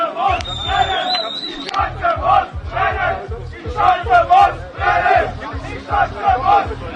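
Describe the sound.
A large crowd of haters near the Schanze in Altschauerberg chants loudly in unison after a smoke bomb explodes, voices rising and falling in repeated phrases over a steady pounding beat of low thumps, with a brief shrill whistle near the start.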